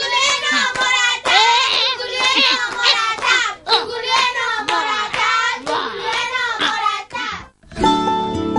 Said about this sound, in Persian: تشویق تشویق جوگولو، جوگولو تشویق. آها راست میگه بچه ها، بچه ها جوگولو راست میگه، تشویقش نکردیم اتاقو مثال زد.